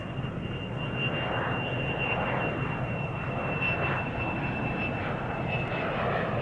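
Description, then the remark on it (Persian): A steady, loud airplane engine drone fills the whole recording, with a persistent high whine above a dense low rumble and no voices, as the plane turns to the right and flies a full circle. “هواپیما رو به سمت راست چرخوند و یه دور کامل زد.”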